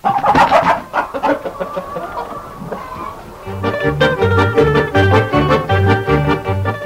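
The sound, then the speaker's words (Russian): A hen clucks in a quick, agitated burst of loud, squawky calls, before a bouncy rhythmic music passage with a steady bass pulse takes over. “Ну, мужик и отдал ей курочку.”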